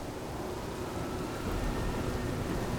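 Heavy rain pours down in a steady, dense hiss with a low rumble underneath, holding an even loudness throughout and no voices.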